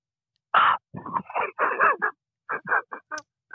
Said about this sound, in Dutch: We hebben een heiger.